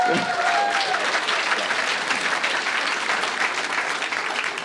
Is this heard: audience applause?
yes